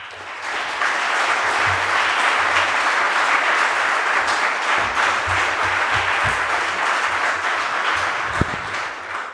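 Sustained audience applause for the performer playing the committee chair after a staged presentation about the NSA inquiry committee, filling the whole stretch: a dense, steady patter of many hands clapping without letting up, with no voices heard over it.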